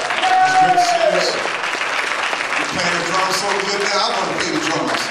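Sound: audience applause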